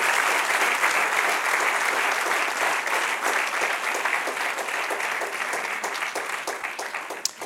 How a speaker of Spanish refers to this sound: Denle un aplauso al que reina para siempre. Bendito el Señor.